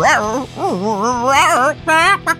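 A small shaggy dog vocalizes: a long, wavering, high-pitched whine followed by two short, sharp yips near the end, loud and with no other sounds around it.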